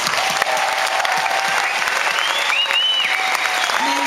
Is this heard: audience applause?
yes